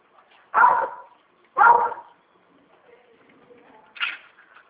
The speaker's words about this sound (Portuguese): Que raça que é o seu cachorro? É misturada, raça vira lata.